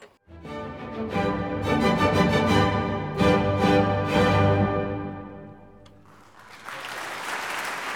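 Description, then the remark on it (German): The Deutsches Symphonie-Orchester Berlin sounds a loud, sustained final chord of Joseph Haydn's Symphony No. 92 that fades out, then a large audience breaks into steady, enthusiastic applause that fills the last couple of seconds. “Und wenn geklatscht wird, dann war es wohl das Finale.”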